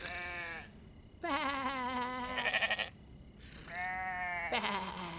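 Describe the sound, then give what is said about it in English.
Several sheep and lambs bleat one after another: wavering, quavering calls, fairly loud, with short pauses between them and no talking. “Nope, just the lambs fast asleep.”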